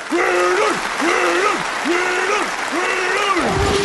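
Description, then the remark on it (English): A voice imitates a roaring, cheering football crowd with four drawn-out, swelling 'haaah' bursts in a steady rhythm, loud over a continuous hiss of noise. “You hear the roar of the crowd.”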